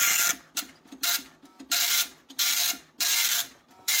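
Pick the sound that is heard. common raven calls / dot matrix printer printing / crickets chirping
dot matrix printer printing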